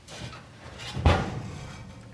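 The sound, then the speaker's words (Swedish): An oven door opens with a single solid clunk midway, surrounded by soft scraping and shuffling as a baking dish is lifted out with oven mitts and set on the stove. Moderately quiet, with no talking. “Öppnar vi ugnsluckan. Så tar vi formen. Lyfter upp den. Och ställer den på spisen.”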